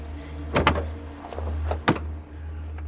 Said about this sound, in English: He glances around, then opens the trunk.